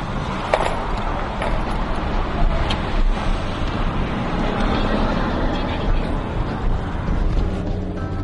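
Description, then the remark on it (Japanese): A car rolls through a highway toll booth, its engine and road rumble forming a steady, continuous drone with a faint clunk near the start and no letup over the eight seconds. “はい、料金所です。”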